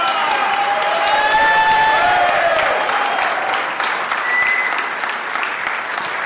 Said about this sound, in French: Et aussi, oui, un applaudissement pour les Chiliens.